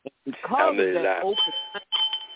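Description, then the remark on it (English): A voice speaks briefly, then a bell rings, two ringing strikes with a sustained bright tone, moderately loud. “But I also was ringing the bell, too, because you did touch up on one of the essential qualities.”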